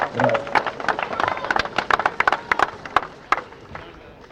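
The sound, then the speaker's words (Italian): An audience claps in a dense, irregular patter of sharp hand claps, steady for several seconds, with a brief voice audible at the very start. “Gli applausi sono tanti, speriamo che a livello degli applausi i cuori di schianti con le emozioni che vengono ad accumularsi con il pianto di questi signori che sono qui.”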